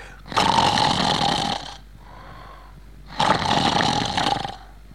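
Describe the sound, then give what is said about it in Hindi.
A voice mimics the loud snoring of a man asleep while people watch a film: two long, rasping snore sounds, each about a second and a half, separated by a quiet pause, forceful with no other talk. “एक साहब जो बाजू में बैठे हुए थे वो सो रहे थे और सोते सोते खर्राटे ले रहे थे और खर्राटे वो यूं ले रहे थे।”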